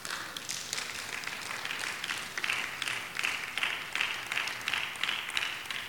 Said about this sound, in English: Can you give him a clapping hand, please?